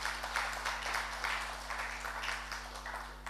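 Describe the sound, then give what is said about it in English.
A crowd at Last Adam Tabernacle church claps for the worship team in a steady, dense patter of many hands, fairly quiet, with a faint electrical hum beneath and no clear speech. “Yes, let's give the worship team another big hand clap.”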